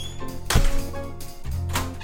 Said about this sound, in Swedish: Hon klampar otvunget rakt in i min lägenhet utan att knacka. Så vi måste fejka både knackningen och ingången igen så att jag får det på band.